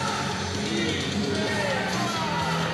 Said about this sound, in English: Bemidji State Beaver fans doing the Beaver cheer here.